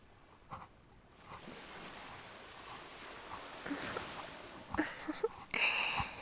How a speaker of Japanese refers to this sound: 波の音とかもこの方がしっかり聞こえてるんじゃない？ ザーって感じで、なんか耳障りがいいのだよね。